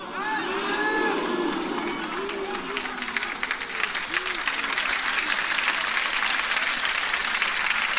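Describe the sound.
A crowd claps steadily after a recited poem of praise, a dense, continuous patter of many hands that grows fuller after the first few seconds, with voices calling out and murmuring through it.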